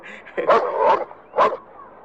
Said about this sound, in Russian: И давайте вспомним, как он с дворником, по-моему, разговаривал, когда Мухтар неожиданно облаял дворника, как это было.